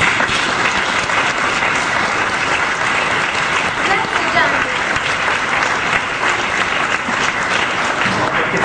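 Sustained applause from an audience, a dense, steady patter of many hands clapping at an even loudness for several seconds, with faint crowd murmur mixed in.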